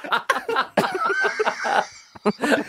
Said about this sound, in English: Why you got all those tissues in your mouth? Oh, you're blowing your nose.